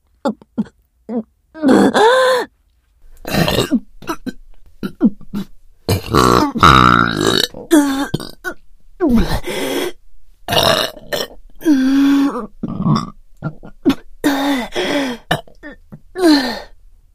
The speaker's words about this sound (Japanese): やば、噴火する。我慢できねえ。ゲップ出る。